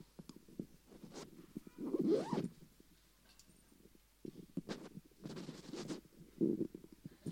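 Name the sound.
zipper being pulled open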